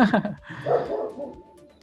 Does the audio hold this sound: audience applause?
no